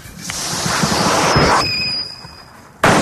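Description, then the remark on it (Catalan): A silbabum firecracker hisses and rushes loudly, then lets out a thin high whistle that fades before a sudden sharp bang bursts at the end, with no voices. “I l'opció correcta era la A, silbabum.”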